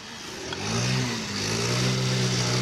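A scooter engine revs loudly as mechanics work on it at a repair business, its pitch climbing in two surges with a brief dip between, a steady mechanical roar and no voices.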